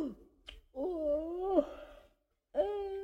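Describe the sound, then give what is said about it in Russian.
A long, voiced yawn drawn out into a wavering moan that dips at the end, followed after a pause by the start of another. Clear, with no talking. “Смотри, Миша, как сладко зевает.”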